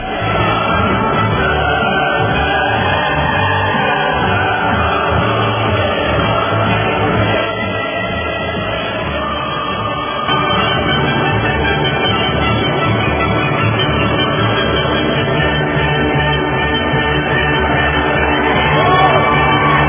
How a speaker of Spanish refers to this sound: Pero vamos a darle los aplausos, ¿verdad?